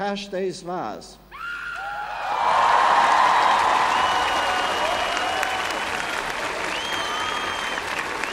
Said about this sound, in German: Minutenlanger Applaus war die Antwort der Jugendlichen auf die Erwähnung des verstorbenen Papstes.